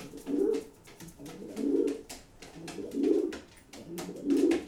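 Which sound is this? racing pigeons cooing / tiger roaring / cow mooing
racing pigeons cooing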